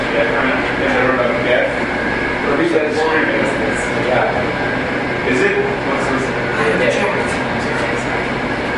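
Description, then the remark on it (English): An air conditioning unit hums steadily and loudly through the whole stretch without pause, with faint indistinct voices murmuring underneath. “Is anyone in favor of turning off the air conditioning building in the windows?”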